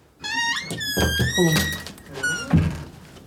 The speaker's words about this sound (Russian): Что это за шум? Это закрылась дверь кабинета. Это телефон? Нет, это дверь. Что это? Дверь кабинета. Дверь?